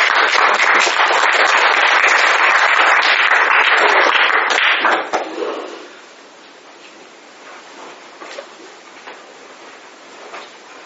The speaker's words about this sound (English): join your hands and give a roaring applause to Bhakti